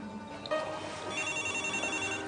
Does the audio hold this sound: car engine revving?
no